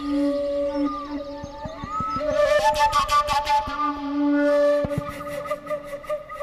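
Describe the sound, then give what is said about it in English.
A tylinka, a very simple traditional Ukrainian flute with a single sound hole, plays sustained, breathy whistle-like tones. The tones waver and slide between pitches, imitating nature sounds and bird calls, accompanied by steady rhythmic tapping percussion. “It is a very simple flute with a single sound hole that a musician can use to imitate nature sounds and bird calls.”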